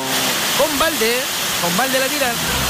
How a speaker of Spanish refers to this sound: Mira cómo llueve